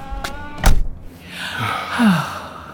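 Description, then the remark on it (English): A key clicks and the lock of a house door thunks sharply, then the door swings open with a drawn-out, rising creak. Fairly loud, with no one speaking. “Here we are. I'll unlock the house.”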